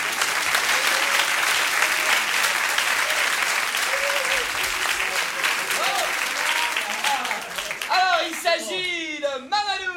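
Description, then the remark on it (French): Loud, sustained applause from a large audience welcoming a man called up after his number, 433, was drawn; a dense wash of clapping with faint voices mixed in; near the end, cheers and whoops rise over the clapping. “Oui monsieur, approchez-vous, on vous applaudit très fort.”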